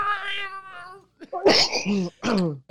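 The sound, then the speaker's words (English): A person's voice mimics a cat, starting with a drawn-out tonal wail, then a short pause and a couple of harsh, screechy yowls, loud with no other sounds. “Maybe there were some cats running around, man.”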